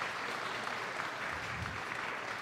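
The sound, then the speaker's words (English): A large crowd at a morning church service at Rose Hill on Friend Day claps steadily for a couple of seconds, the dense, even applause without any voices rising above it. “Yeah, let's give the Lord a hand right off the bat.”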